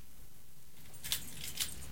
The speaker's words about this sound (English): Sitting side by side on the sofa outside the doctor's office, Henry watches Michael anxiously twirling a set of car keys around his finger.